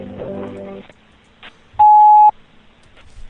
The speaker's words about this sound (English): Please leave your name and number at the beep, and the first available asshole will return your call promptly.